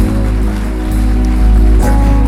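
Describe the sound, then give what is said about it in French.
Dense, steady applause from a church audience giving a woman a hand fills the whole clip, a loud continuous wash of clapping with a faint low sustained tone underneath and no voices. “Can we give her a hand?”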